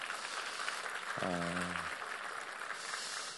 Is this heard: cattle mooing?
no